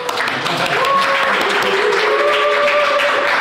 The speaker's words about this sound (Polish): Nie widać na nagraniu, są ich miliony. To możemy już skończyć. Dostaliśmy brawa.